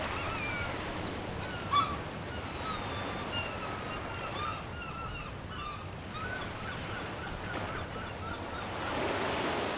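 Steady ocean surf washes continuously along the shore, a broad rushing wash with faint bird calls above it and a gentle swell near the end, no voices present.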